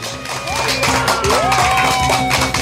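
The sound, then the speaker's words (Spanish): A burst of dense clapping from a group, steady and fairly loud for a couple of seconds, with a few thin whistling tones rising and gliding above it; applause to bid farewell to November on Wednesday, 30 November 2016. “Vamos a despedir a noviembre con un aplauso.”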